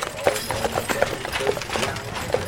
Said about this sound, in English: Horse-drawn stage coaches pass by constantly.